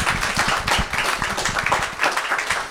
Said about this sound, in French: Ben, merci, on peut vous applaudir, ainsi que tout le personnel.